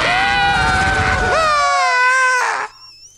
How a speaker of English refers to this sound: Nicely done. Listen to that scream. Listen to the scream. It's so good.